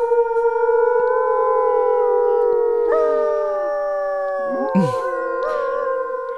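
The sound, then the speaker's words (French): Several wolves howl together in a long, layered chorus of sustained, gliding tones, with pitches bending and overlapping and a brief yipping break near the end, heard clearly with no talking. “On va aller voir le loup.”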